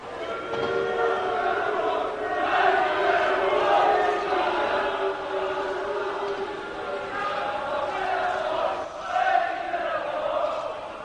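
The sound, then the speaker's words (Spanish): A large crowd boos loudly and continuously during a minute of silence, a dense roar of many voices sustained for the whole stretch, swelling slightly now and then with no pause. “Y luego hay abucheo, ¿eh? ¿Lo puedes poner otra vez?”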